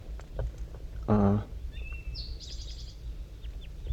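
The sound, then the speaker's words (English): Two wild birds in the top of a dead pine tree in thick fog trade soft calls back and forth: one short, buzzy, harmonic-rich call, answered by a couple of thin, high whistling notes, all over a steady low background rumble. “And they're calling pretty softly now, back and forth, 5-3 and the two wild ones.”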